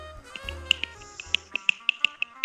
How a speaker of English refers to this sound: Can you hear that? What is that? That was me snapping.